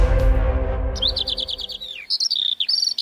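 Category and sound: bird, small songbirds twittering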